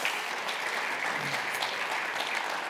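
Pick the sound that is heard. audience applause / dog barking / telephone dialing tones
audience applause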